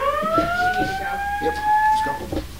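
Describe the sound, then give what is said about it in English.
The Capitol building's alarm system sounds a loud, continuous electronic tone that rises slightly in pitch and holds for about two seconds, with a murmur of voices and room noise underneath, cutting short a press conference; it is a false alarm. “But the press conference is abruptly cut short by the Capitol's alarm system.”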